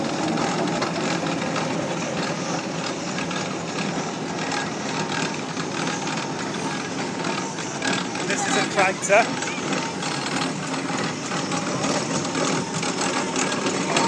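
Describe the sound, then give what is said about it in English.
A steam roller engine runs steadily at a fairground event, a continuous rattling, clattering mechanical drone that holds constant throughout, with a brief squeal near the end and faint background voices. “This is another roller.”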